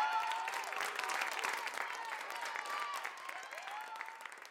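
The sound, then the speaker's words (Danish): Steady, dense applause from a crowd, with scattered voices cheering hurrah and congratulations mixed in, for the winner of a 10-metre race, holding at an even level for several seconds before easing slightly toward the end. “Alle klapper og råber hurra og tillykke.”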